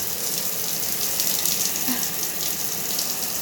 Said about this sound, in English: Of course, how most people start their mornings with a nice hot shower, so I'm gonna get that going and be back with you. Okay, so the water's going. I'm just gonna step in here.